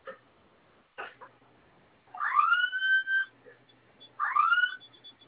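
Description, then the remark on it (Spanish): A fire alarm panel sounds two rising, whooping electronic tones, the first about a second long and the second shorter, after a couple of faint clicks, as its two flame-symbol buttons are held down while a user code is being set. No one speaks. “En cuanto suene la alarma, ingrese la clave que usted escogió.”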